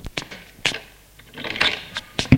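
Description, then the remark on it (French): A glass door, opened by a man, opens with a few sharp latch clicks and a brief rattling scrape, then a heavier knock as it settles. The sounds are fairly quiet, and no one speaks. “L'homme l'ouvre une porte vitrée.”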